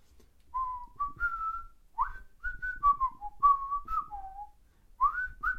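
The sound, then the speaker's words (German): A person whistles a bouncy cartoon theme melody, clear pitched notes rising and falling in short phrases, with brief pauses between them and no talking over it. “Ich würde es jetzt einfach mal pfeifen und gucken, ob du das errätst.”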